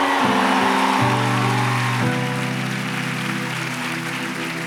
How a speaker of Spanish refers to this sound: Vamos, levantes fuertes aplausos a Cristo Jesús.